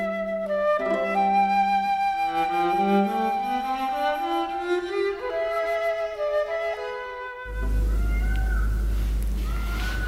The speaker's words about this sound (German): Ja, jetzt hört man sogar hier innen im Otaheitischen Kabinett die Pfauen schreien. Das ist vielleicht auch ein Zeichen dafür, was für eine leichte Bauweise haben in diesem Haus.